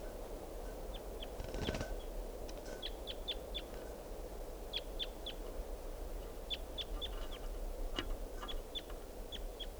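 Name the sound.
wild bird calling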